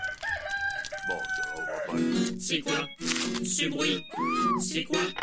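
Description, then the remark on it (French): A short jingle for a sound-guessing game: a rooster's crow mixed with a wordless human voice, broken by bright crashes of shattering glass, all loud with no gaps. “Alors, pour le moment, c'est une voix humaine avec un coq et du verre cassé.”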